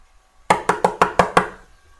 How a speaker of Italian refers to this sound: Poi va a casa di Babborco e bussa.